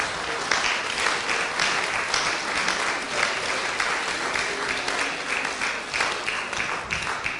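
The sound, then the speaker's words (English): A sustained round of applause from a crowd, many hands clapping in a dense, steady patter at an even loudness for several seconds, with no voices rising above it. “So round of applause.”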